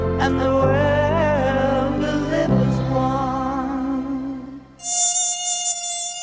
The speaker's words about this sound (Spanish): Ojalá fuera música, pero no lo es, sino un zumbido impertinente que te avisa que vienen en ataque como peligrosos kamikazes. Son esos monstruos voladores a los que llamamos mosquitos.